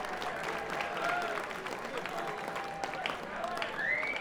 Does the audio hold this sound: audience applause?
yes